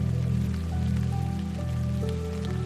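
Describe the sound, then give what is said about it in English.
Steady rain pours down continuously, a soft even hiss of drops on a surface, with a low sustained droning tone humming beneath it throughout. “As the rain grows steadier, allow it to flow over you.”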